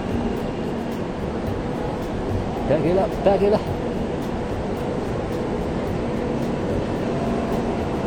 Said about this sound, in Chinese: OK， 车来了，和谐哈。哦，是个动车，不是高铁。